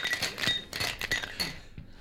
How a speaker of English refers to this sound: Put ice into the tumblers. Yep. Okay. And just build it in the glass.